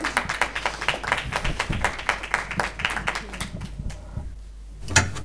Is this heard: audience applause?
yes